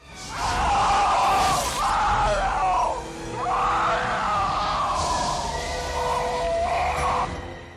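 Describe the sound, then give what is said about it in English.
A loud, drawn-out alien creature scream from a movie, as the creature goes through a window. It has an eerie, almost human quality, rising and wavering across several seconds in strained, voice-like bursts, heard alone without any talking. “Well, the alien at the end, where he's going through the window, the scream they used was so good.”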